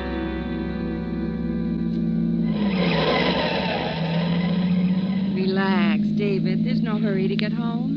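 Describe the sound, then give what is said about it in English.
A steady low engine drone of cars in heavy traffic, with a rushing swell partway through, and then voices begin talking over the continuing rumble. “In this mess of traffic.”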